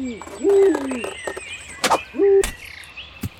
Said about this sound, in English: check out this owl. He looks fucking pissed. Any idea what he's saying?